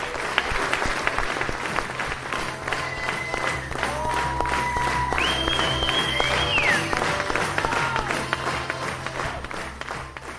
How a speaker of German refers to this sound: Im Namen vom Ferienspass-Team von der Proventuten und vom Zirkus Muck und dem ganzen Team bedanke ich mich ganz, ganz, ganz herzlich für den wunderbaren Applaus, für euch das Kommen heute Abend und ja, merci vielmal.